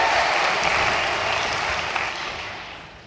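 A crowd claps steadily in a dense, even wash of applause that stays loud for about three seconds, then gradually thins and fades slightly toward the end.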